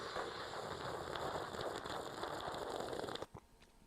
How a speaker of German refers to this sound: Achtung, dramatischer Zug aus der Kaffeetasse, Achtung.